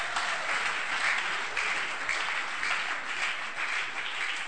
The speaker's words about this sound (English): Clap your hands.